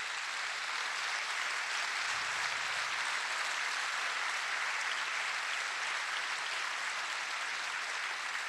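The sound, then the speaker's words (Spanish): Steady audience applause fills the whole stretch, a dense continuous patter of many hands clapping at even loudness with no voices standing out. “Sí, sí, ahora aplauden”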